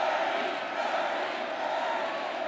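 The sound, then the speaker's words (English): A crowd of about 5,000 at a Bernie Sanders rally in Madison, Wisconsin, roars and cheers as Sanders takes the stage, in one continuous wash of voices, loud and steady throughout with no pauses, and no single speaker stands out above the noise. “When Bernie Sanders took the stage last night in Madison, Wisconsin, the crowd of about 5,000 went wild.”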